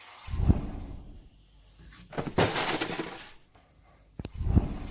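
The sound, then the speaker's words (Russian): A phone, broken by a cat, breaks with a sharp crash of breaking glass, followed by scattered tinkling debris and a few heavier thuds, with no voices present. “Ну, его правда разбил кот.”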